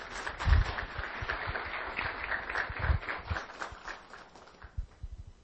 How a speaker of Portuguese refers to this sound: Declaramos, então, empossados os membros da mesa diretora da Câmara Municipal de Formosa para o ano de 2020. Uma salva de palmas.